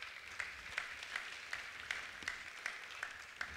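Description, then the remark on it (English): Faint audience applause for the worship team after it led worship, with a steady, even beat of sharp claps, about two or three per second, over a soft continuous hiss of many hands. No one speaks. “Can we give our worship team just a round of applause for just leading us to worship today?”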